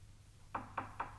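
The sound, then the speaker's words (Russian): Four sharp knocks on a door, evenly spaced, with nothing else sounding around them. “Кажется, стучат.”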